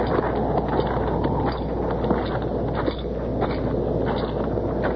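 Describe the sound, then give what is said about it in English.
Horses' hooves plod steadily across dirt at a walking pace as they are led over to a barn in the rain, a soft irregular clopping over a constant low rumble and breezy outdoor background. “You take Keel and the horses over to the barn, Chester.”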